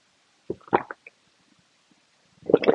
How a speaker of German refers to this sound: während ich mal einen Schluck Wasser zu mir nehme.